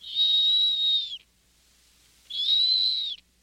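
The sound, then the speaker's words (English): A snowy owl call: two long, steady, high-pitched whistles, each about a second long with a short pause between, clear and fairly loud like a whistling kettle, with no talking. “If it sounds like a kettle whistling, it's a snowy owl.”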